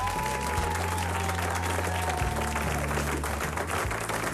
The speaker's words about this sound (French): Il va y avoir 6 chansons en live sur RTL2. J'aimerais bien qu'on se lève, qu'on l'accueille, qu'on l'applaudisse